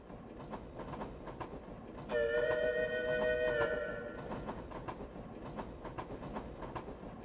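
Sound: train running on rails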